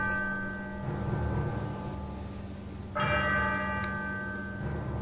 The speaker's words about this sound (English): As the clock strikes 13, it's Thursday, the 8th of January, year of our Lord 2026.